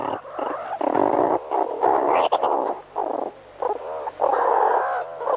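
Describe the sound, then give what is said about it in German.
Meerkats chatter during a teaching session in a busy, overlapping stream of raspy, purring calls and squeaky chirps, coming in dense bursts with brief pauses, fairly loud and mid-pitched, with no human voices. “Und so klingt eine Unterrichtsstunde bei den Erdmännchen.”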